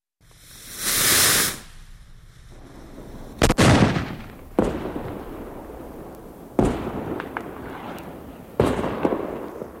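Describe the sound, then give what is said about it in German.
A rising hiss like a launching rocket, then a series of sharp fireworks bangs at irregular intervals, each followed by crackling decay, loud with no talking; fireworks on 1 August in densely populated areas south and east of the airport at Kloten. “Die vielen Feuerwerke und Höhenfeuer in den dicht bewohnten Gebieten im Süden und Osten vom Flughafen könnten die Piloten irritieren, stören beim Anflug.”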